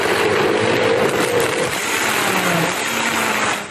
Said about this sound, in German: Geht der kaputt? Nee, hey, das ist ein Hochleistungsmixer.